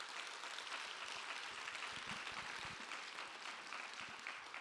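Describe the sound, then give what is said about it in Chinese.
An audience claps hands in praise of the Lord, a steady, dense wash of many overlapping claps that stays loud and even for the whole stretch, with no voices standing out. “我们感谢神，我们拍手赞美主。”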